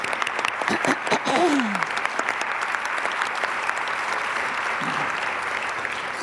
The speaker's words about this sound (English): We thank all of you for honoring us by your presence. And now we can applaud.